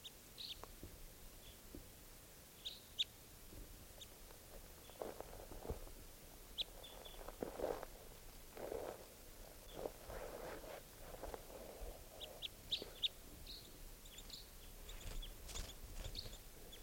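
Birds calling faintly: scattered high, short chirps come in irregular bursts over a soft, steady background hiss, with a few louder rustling swells in between. No one speaks.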